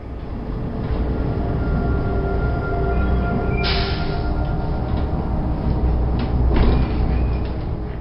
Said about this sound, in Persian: صدایی از دور می آید. بیشک این صدا متعلق به اتوبوس است، اما من چیزی نمی بینم. این مه لعنتی.